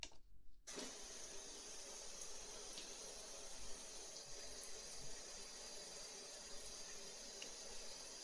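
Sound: running tap water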